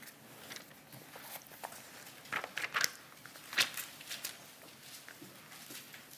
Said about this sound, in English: I like hearing pages turning. And those of you who are looking it up on your phone or your iPad, it's just not as satisfying.